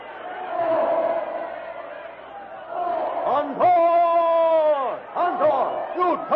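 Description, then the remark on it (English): A loud, panic-stricken crowd fleeing in every direction as elephants charge through it, with overlapping shouts and frantic screams rising above the din, including one long sustained yell near the middle, all chaotic. “Followed by the other elephants who have tossed their riders aside, the jungle titan lunges through the screaming, panic-stricken crowd straight toward the ape man.”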